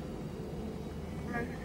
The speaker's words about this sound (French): Donc, dans le clip, il se retrouve dans un avion à un moment. On entend l'avion.